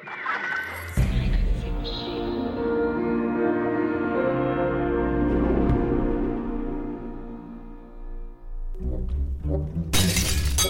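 glass smashing

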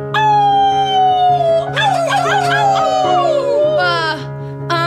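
wolves howling

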